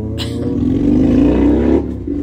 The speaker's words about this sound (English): I apologize, there's loud cars in the background, guys. I'm so sorry. Getting tired of that too, by the way.